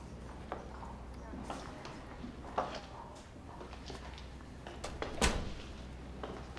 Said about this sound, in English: She steps into the room, and the doctor closes the door behind her.